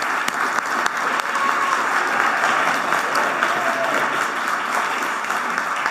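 An audience at a church applauds its band steadily for about six seconds, a dense, even wash of many hands clapping at a fairly loud level with no pauses or speech over it.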